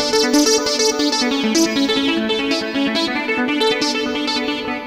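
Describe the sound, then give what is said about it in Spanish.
A synthesizer plays a steady run of sustained notes with a shimmering chorus effect, its thick, wavering tone holding at a loud, even level with no one talking. “O el chorus.”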